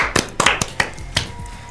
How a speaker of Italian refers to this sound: Allora fatevi un applauso, anzi lo faccio io.